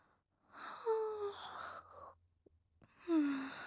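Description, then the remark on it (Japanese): Two long, breathy yawns made while at work, each a drawn-out exhale carrying a low, voiced tone that slides downward, with a short quiet pause between them and no talking. “仕事中にあくびとは感心しないわね。”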